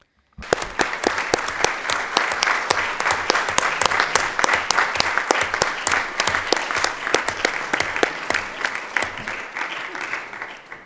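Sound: audience applause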